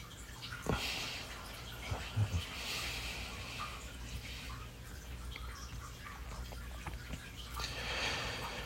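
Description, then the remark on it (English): Shower water runs steadily nearby, a continuous hissing spray broken by a few sharper splashes and knocks, with no voices present. “That's why the moment I get out of the shower, I don't even bother putting on a towel.”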